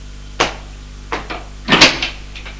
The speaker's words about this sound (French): L'appartement est sombre. Il ouvre une porte.